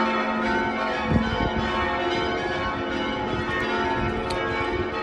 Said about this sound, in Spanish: Son las 12 de esta mañana. La catedral de la capital letona se hace oír con su repicar de campanas.